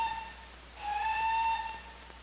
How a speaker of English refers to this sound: There's the special train. In 15 minutes, the heart of England's going to have slight palpitations.